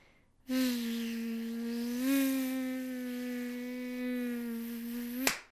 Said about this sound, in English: Suddenly, a swarm was upon us, and we spent the rest of that night curled up as tightly as we could inside our sleeping bags, slapping away at mosquitoes.